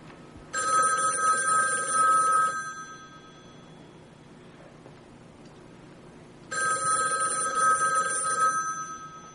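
An old-style telephone bell rings in two long, loud bursts of about two seconds each, separated by a pause of several seconds, against quiet.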